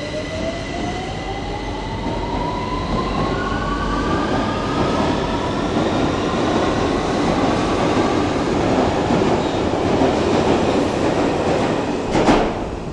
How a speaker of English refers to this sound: Okay, this is the train now leaving, just to disturb my story. True sounds of London.